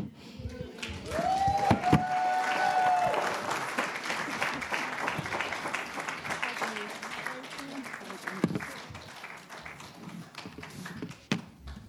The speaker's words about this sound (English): Wasn't she good? Yes. Should we give her another round of applause for that?